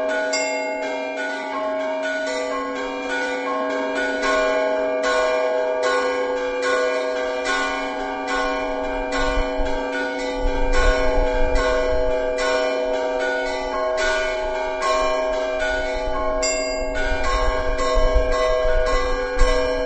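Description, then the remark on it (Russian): Church bells ring the composition "Kolomenskie Volny" (Kolomna Waves), performed by Evgenia Fokina, continuously in a dense, overlapping peal, their rich metallic tones sustaining and blending at a steady, fairly loud level, with repeated strikes forming a rhythmic pattern and no voices. “Так звучит композиция «Коломенские волны» в исполнении Евгении Фокина.”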